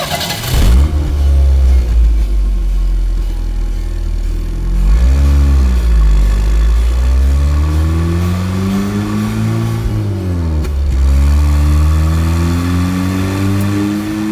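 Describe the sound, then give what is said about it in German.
A Porsche 911 sports car engine revs hard several times, its pitch climbing and falling in sweeping waves, loud with a deep rumbling growl and no talking. “Nehmen wir zum Beispiel mal den Sound des Porsche 911.”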